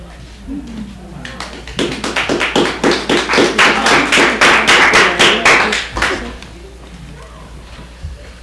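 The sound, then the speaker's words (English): At a poetry reading, an audience claps in a quick, even beat that builds up, holds loud for a few seconds, then stops abruptly, with voices talking underneath and continuing afterward. “The clapping feels good, but I wonder, is it better at the end of all of us?”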